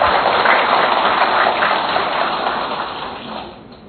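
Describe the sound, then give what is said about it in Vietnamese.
Steady, dense clapping from a parish audience thanking their parish priest fills the space for a few seconds, a noisy wash of hand claps that gradually fades toward the end, with no voices. “Chính vì thế chúng ta phải cảm ơn Cha sở vì những bức thư tình của Thiên Chúa gửi cho chúng ta, và một tràng pháo tay thật lớn.”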